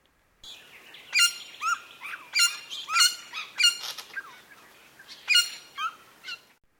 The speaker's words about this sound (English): Next is the silver-crowned friebird. This first call is what I call the squeak honk, and I have found this call to be diagnostic for the species.